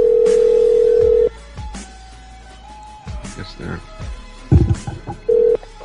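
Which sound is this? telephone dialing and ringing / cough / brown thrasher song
telephone dialing and ringing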